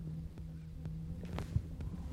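Steady, low electric humming from an implanted heart pump installed at the apex of the heart, an unbroken droning tone with no heartbeat rhythm, accompanied by a few faint soft clicks and a brief thump.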